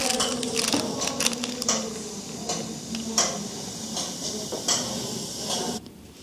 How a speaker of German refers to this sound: Dann war es noch ganz ruhig. Nur die Uhren haben tickert.